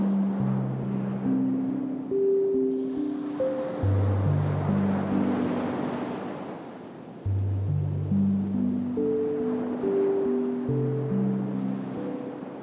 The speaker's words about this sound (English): And you're near the water, so the tide is coming. Every now and then the water comes up, touches your feet. It's warm, feels good.